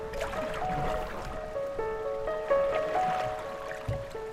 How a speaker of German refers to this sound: Am Nachmittag verengt sich der See noch weiter zu einem schmalen grünen Tunnel. Wir müssen hintereinander paddeln. Unsere 5-Meter-Boote würden nicht mal querpassen. Man hat tatsächlich das Gefühl, als paddle man durch einen Dschungel.